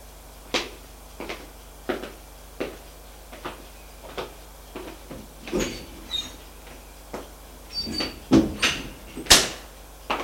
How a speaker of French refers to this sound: Martin frappa la porte pour le prévenir que le dîner est prêt.